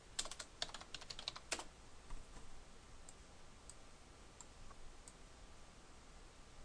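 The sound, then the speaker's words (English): Rapid typing on a computer keyboard, a quick burst of crisp key clicks in the first second and a half, then a few sparse, softer taps spaced out over a quiet background. “You also might want to make this a little bigger so you can see what I'm typing.”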